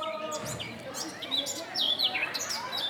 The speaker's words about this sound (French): Nous pouvons entendre le bruit des oiseaux.